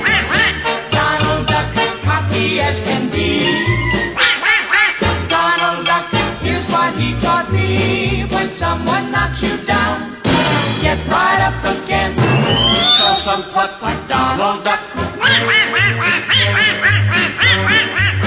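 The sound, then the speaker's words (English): A cartoon duck voice quacks and squawks loudly and almost nonstop over a busy musical backing, a human imitation of a duck with rapid, raspy bursts filling the whole stretch. “Quack, quack, quack, Donald Duck, gee, I think he's cute.”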